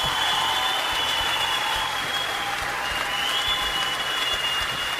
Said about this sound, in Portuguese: Vamos, uma salva de palmas pro IAC, gente.